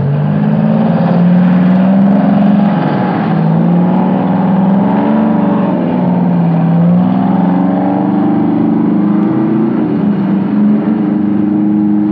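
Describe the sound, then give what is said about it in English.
Heavy Euclid earth-moving trucks working on flood dikes near Lumsden run with deep, steady engine drones, their pitch slowly wavering as the motors labor and rev slightly, loud and continuous throughout with no voices. “Caution dictates that you can't move these huge machines and the men with the danger on”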